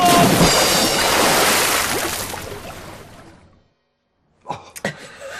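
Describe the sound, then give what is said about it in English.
A heavy splash as a person falls into water while stepping onto a boat, followed by a few seconds of loud churning and sloshing that fades to silence, then some brief knocks and splashes. “Oh, God knows what's in that water.”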